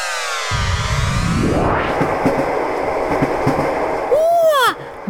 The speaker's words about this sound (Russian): Поезде, как хорошо. Колеса стучат. Можно сидеть и в окошко глядеть. Это железнодорожный транспорт, верно?